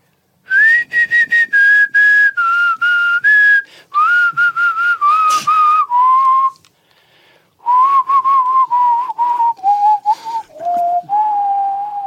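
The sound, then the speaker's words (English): A whistled show theme tune in two loud, clear phrases separated by a short pause, the melody hopping through quick notes and gradually stepping down in pitch, with no talking. “So I'll do the theme and then I'll duck it and you can start the intro.”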